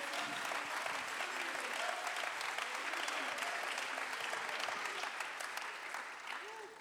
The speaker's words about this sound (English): Can you clap your hands right now unto the Lord? Aplauda tus manos al Señor.